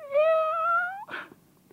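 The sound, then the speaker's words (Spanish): A single drawn-out kitten meow, fairly loud, rising slightly at the end before breaking into a short, rough, breathy burst, with no talking around it. “Solo, tu gatito tiene frío.”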